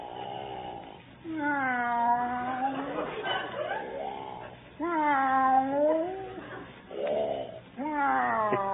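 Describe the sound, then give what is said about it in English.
Long, wavering cat-like meows repeat in several loud cycles, alternating with low breathy snoring, as a man napping in the other room has his snores turn into meows. “What's he doing? Taking a cat nap.”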